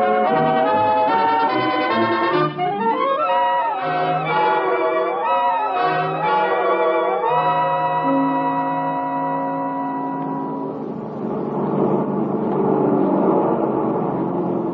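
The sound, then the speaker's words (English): Sustained, swelling tones give way to a steady, rough droning roar of a plane's engine being warmed up, growing fuller over the last few seconds with no voices. “Get the plane warmed up for me, will you?”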